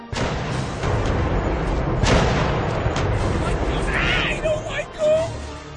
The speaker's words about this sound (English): Look there, mateys! The great ghost ship fires ghost cannons!